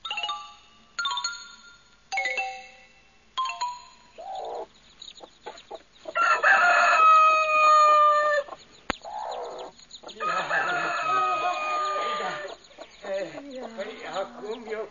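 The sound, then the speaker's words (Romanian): A few short electronic chime tones open, then a rooster named Alectrio crows loudly twice, long, with hens clucking and scattered farmyard bird noises around the crows. “Ia, înțelepte, Solomon, pe cocoș fă-l să învie și galina așa ei pui sănătoși din nou să fie.”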